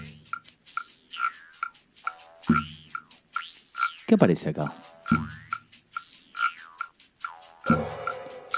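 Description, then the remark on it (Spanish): A rhythmic rasping scrape, like a guiro, alternates with sharp, regular wooden clicks of claves in a steady percussion pattern, moderately loud, with a voice briefly speaking over it. “Aparece un güiro o raspador. Unas claves, que son estos palos que se golpean.”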